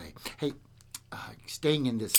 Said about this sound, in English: all these little clicks and clacks, what you're hearing is are my harmonicas coming in and out of my rack. Hey, about time you guys got up. Been in the rack all day, right?